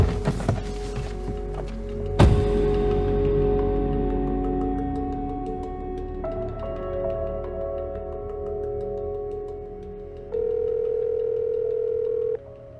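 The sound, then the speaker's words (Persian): A mobile phone rings with electronic, tonal chimes that grow fuller partway through, ending in a steady, louder two-second tone. An earlier sharp click stands out, and no one speaks. The phone has been ringing since early evening. “گوشی منو بدید. از سر شب داره زنگ میزنه.”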